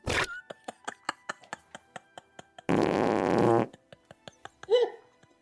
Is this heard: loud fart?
yes